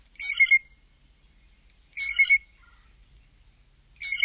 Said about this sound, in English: And as familiar as the typical call might be, these birds are immensely creative vocalists with a large vocabulary of other calls, including piping notes.